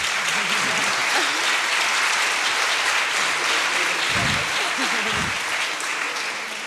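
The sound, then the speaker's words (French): Steady, dense applause from an audience at a debate meeting welcoming artist Ernest Pignon-Ernest, a broad crackle of many hands clapping at an even level, with a few faint voices murmuring underneath before it starts to taper off. “Oui, on peut l'applaudir, absolument.”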